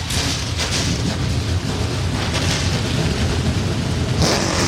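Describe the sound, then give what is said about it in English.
A field of NASCAR Xfinity Series race car engines roars to life together on the pit lane before the Hy-Vee Perks 250 in Iowa, a dense, loud, rumbling drone with deep low-end thunder and gritty revving that holds steady throughout, with no talk. “NASCAR Xfinity Series engines come to life on the pit lane.”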